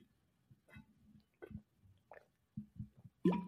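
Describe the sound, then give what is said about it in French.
Quiet mouth sounds of someone taking a small sip of a drink: soft wet slurps and swallowing clicks in short bursts, ending in a slightly louder gulp. “Je prends une petite gorgée.”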